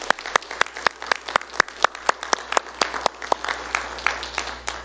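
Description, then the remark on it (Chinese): A church audience at a testimony meeting applauds steadily for about five seconds to thank three people who gave testimonies and the pianists, many hands clapping in a dense, uneven patter with a few sharper individual claps standing out. No one speaks. “我们给他们热烈掌声来感谢他们。”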